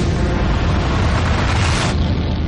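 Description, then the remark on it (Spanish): A volcanic eruption on an island of the Canary Islands: its explosive boom rolls out as a loud, deep, continuous roar, heavy with low rumble and steady for the whole stretch, easing slightly near the end. No voices. “Hace más de 300 años, en una isla de Canarias, hubo una gran explosión.”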